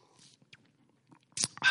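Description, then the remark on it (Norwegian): A quiet sip of coffee: a brief hush, then two short, noisy slurping pulls of air and liquid near the end, with no talking. “Historien går sånn, nå skal jeg ta meg en slurp av kaffe nå.”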